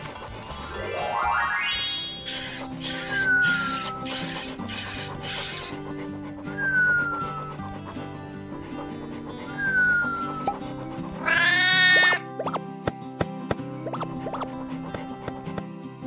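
A cat meows repeatedly, a series of drawn-out, wavering cries spaced a few seconds apart, ending in a longer, louder yowl, all clear with no talking.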